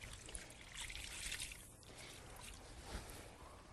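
A wet towel is rubbed and squeezed with cold water in a cold friction rub on a sweaty patient's arm, one arm at a time, giving a steady wash of squishing and trickling sounds with no voices.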